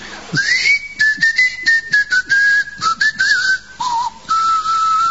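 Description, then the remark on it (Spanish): A person whistles to communicate, as the inhabitants of the island of Trakova were said to do, a sustained, clear tone that steps and glides between pitches over about five seconds, with short bursts of breathy noise breaking in. No one speaks. “A poco de llegar a Trakova, se escuchaban los silbidos de los habitantes.”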